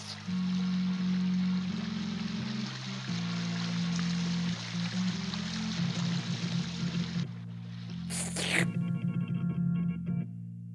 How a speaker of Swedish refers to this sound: Oj då, hoppsan, draken böjer på huvudet. Han dricker och vattnet forsar som en flod in i munnen.